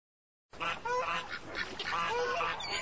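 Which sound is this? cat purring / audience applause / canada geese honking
canada geese honking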